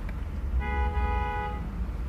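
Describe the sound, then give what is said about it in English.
A single car horn blares for about a second over a steady low rumble of road traffic, loud, with no voices. “I'm all Lagos and traffic, the fuck, man.”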